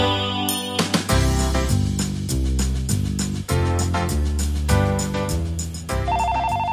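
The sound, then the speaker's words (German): A phone rings with a busy, melodic ringtone, a bright electronic tune of quick repeating notes playing loud for several seconds, with no one speaking. “Das Telefon klingelt.”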